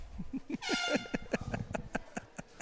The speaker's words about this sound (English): That was air horn for bad jokes. Right. That was the one bad joke warning.